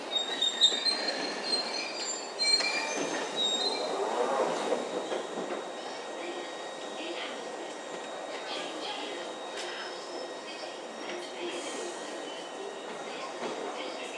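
A London Underground train arrives and departs, rumbling steadily along the rails, thin high-pitched wheel squeals and motor whines threading through the noise, slightly louder in the first few seconds before settling into a constant roar.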